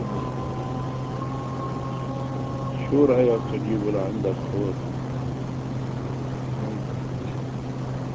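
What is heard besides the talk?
electric generator engine running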